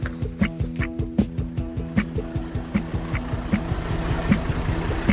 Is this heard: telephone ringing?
no